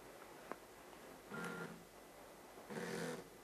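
A cell phone rings twice, each ring a short burst of layered electronic tones about a second apart, over a low steady hiss with a faint click beforehand. No one speaks.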